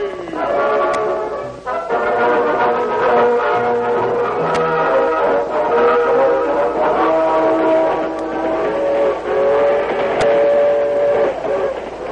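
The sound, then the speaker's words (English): A passenger train from California rumbles steadily along the rails, its sustained mechanical drone loud, with sharp periodic clicks cutting through about every few seconds and no voices present. “Dan Reed, the teenage nephew of the Lone Ranger, was a passenger on the train from California.”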